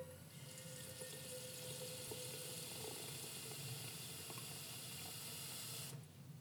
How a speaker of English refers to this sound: Then, we put water in the kettle.